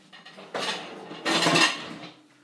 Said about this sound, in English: Right, cutlery rack can go back up, the thing can go back up.